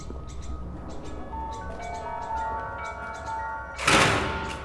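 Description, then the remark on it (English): A heavy prison door shuts with a loud, sharp burst near the end, after several seconds of sustained ringing tones and a low rumbling background. “The sound of the closing door makes him look over his shoulder.”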